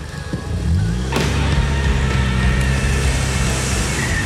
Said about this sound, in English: throws her car into reverse and backs up so fast her tires churn up the dirt of this turnaround. A second later, we're speeding away from the alien.